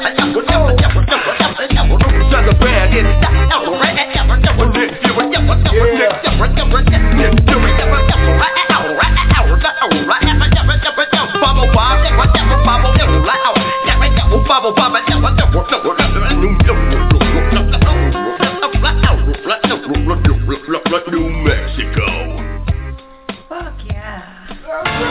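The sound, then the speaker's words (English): Loud, continuous beatbox vocal percussion with a steady driving rhythm, punchy bass-heavy kicks and clicky, scratch-like accents pulsing throughout, easing slightly near the end. “Oh, yo, let me hit the beatbox over this shit.”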